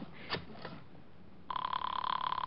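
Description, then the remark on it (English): A couple of soft knocks, then a telephone bell starts ringing loudly, a rapid, buzzing metallic trill that carries on to the end with no talking. “He hung up. Give me the phone.”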